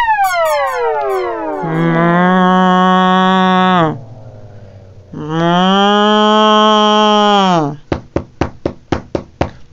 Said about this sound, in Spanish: Va una vaca paseando por el campo, mugiendo, cantando, soñando, cuando de pronto tropieza y ¡plof! Se cae al charco.